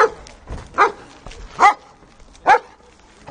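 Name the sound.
police dog barking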